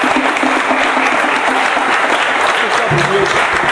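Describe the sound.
Steady, loud applause from an audience fills the whole stretch, a dense wash of clapping hands with a brief voice rising through it near the end.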